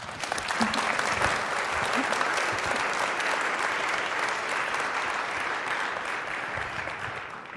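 An audience claps steadily for several seconds, a dense, even wash of many hands with no single claps standing out, holding a fairly loud level before easing slightly at the end.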